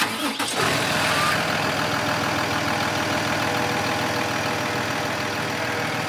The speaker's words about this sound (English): The truck starts up and starts to drive away.